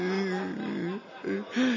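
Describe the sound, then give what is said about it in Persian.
A voice crying and whimpering in wavering, drawn-out sobs, fairly loud, with a brief quieter break midway before the tearful moaning resumes. “بابا گریه”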